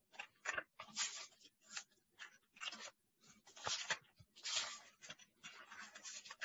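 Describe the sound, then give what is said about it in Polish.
Paper pages being flipped through quickly while looking up 2 Timothy 3:12, a run of crisp rustling swishes one after another, fairly loud, with no voices. “A, coś mi się pędzi, moje kartki tak.”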